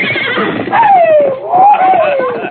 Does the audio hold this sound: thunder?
no